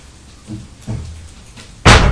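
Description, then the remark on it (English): A cupboard door, where bin bags are kept, creaks and bumps a couple of times, then shuts with a loud, sharp slam. No one speaks. “they're keeping them up here. In the cupboard.”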